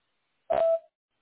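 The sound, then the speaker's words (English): A single short voicemail beep on the answering message of Authority Heating and Air, a steady mid-pitched electronic tone lasting under half a second with a slight click at its start, sounding alone in silence. “We're unavailable to answer your phone call right now, but please leave a detailed message at the tone, and we'll be sure to get back to you as soon as possible.”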